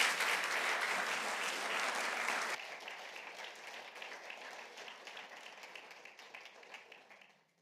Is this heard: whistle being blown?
no